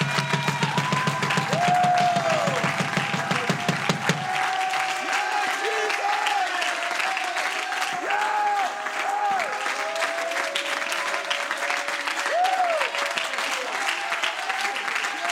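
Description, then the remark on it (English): A church audience stands and claps steadily throughout in praise of the Lord during a service, a dense wash of hand claps with scattered cheers and shouting voices rising over it. “Come on, if you believe it, you ought to stand to your feet and clap your hands unto the Lord and shout unto God.”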